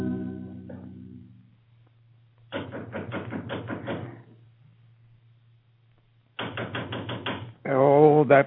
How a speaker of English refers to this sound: That knocker. There's always someone pounding at the outer door.